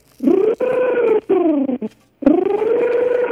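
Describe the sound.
A voice imitates a little dog as the voice of a puppet character, with drawn-out, whiny yelps and howls, several rising and falling tonal cries broken by short pauses, loud and alone.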